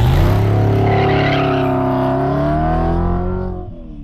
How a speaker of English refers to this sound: Lights of the shimmering downtown skyline zip past the car. We're on the San Bernardino freeway heading west.